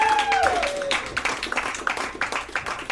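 An audience gives a big round of applause for a guest and Make Magazine, clapping steadily, a dense wash of many hands clapping for a few seconds, with a brief whistle-like tone at the start.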